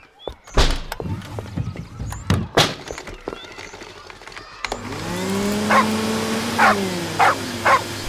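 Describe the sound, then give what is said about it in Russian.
A dog, Kusachka, barks three times in steady succession over the loud drone of a running vacuum cleaner. The vacuum switches on after a few scattered thumps and clatters and is used to clean up potting soil spilled from a flower pot onto the floor. “Кусачка, ну чего ты разлаялась? Это всего лишь пылесос.”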